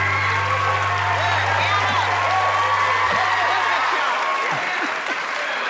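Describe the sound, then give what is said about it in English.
A studio audience claps loudly and steadily for several seconds as Mama, the star of Mama's Family, is welcomed onto the show, with a few whoops mixed in and a low sustained tone humming underneath for the first four seconds. “Lord, I stopped the clap and I haven't done anything yet.”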